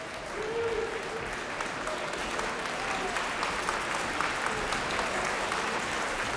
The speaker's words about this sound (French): Mais voici que le chef revient, les applaudissements reprennent, agrémentés de quelques « ouh ».